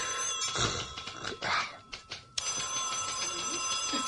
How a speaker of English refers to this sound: Somebody take that phone.